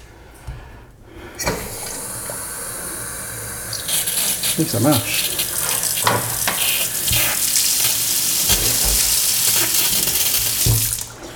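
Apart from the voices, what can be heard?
water running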